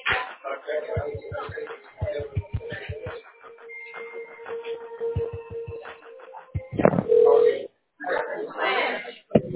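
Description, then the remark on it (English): Speakerphone call sound over a narrow, tinny channel: clicks of a number being dialed, then a steady electronic tone and a louder burst like ringing, with faint voice-like murmur in the background. “speakerphone caller, you will now be connected to the person you dialed.”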